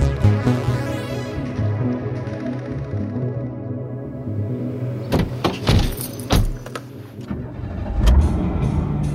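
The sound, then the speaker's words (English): An old third-hand car engine cranks and catches, then idles roughly with uneven sputters and knocks, loud, with a few sharp clanks and rattles breaking through the rumble. “What's wrong with your car? It sounds bad.”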